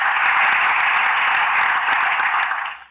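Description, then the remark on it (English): A dense wash of applause, steady and hissy, holds at an even level for a few seconds before fading out at the end. No voices are heard. “Let's give that girl an applause, okay?”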